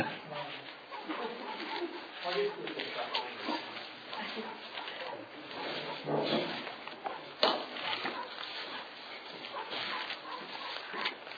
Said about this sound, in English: Somebody's dog barking out there. Is it one of ours?